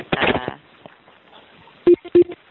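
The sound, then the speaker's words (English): Three short electronic beeps sound in quick succession near the end as participants hang up from a conference call at the end of a meeting, following a brief burst of muffled voice at the start. “People are hanging up.”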